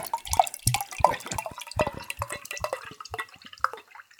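Flat cider pours from a bottle in a steady stream of uneven glugs and splashes, with no fizzing, for several seconds and no talking.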